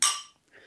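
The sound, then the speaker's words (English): A single bright glass clink rings out and fades over a fraction of a second, followed by a softer, duller clatter of glassware as rum is poured with ice. “Do you want the wine glass or do you want the shot glass?”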